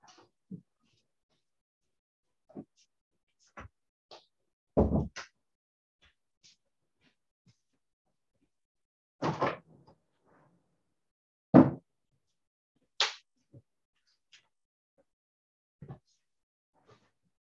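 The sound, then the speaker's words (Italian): Doors being shut one after another, a few solid thuds spaced several seconds apart with small clicks and handling noises between them, otherwise quiet. “Allora, scusate, chiudo ulteriormente delle porte perché qualcuno mi ha detto prima che si sentivano dei rumori e quindi preveniamo.”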